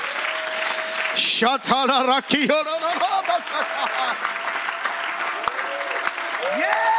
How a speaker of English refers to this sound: Once again, why don't you give him a good hand clap of praise?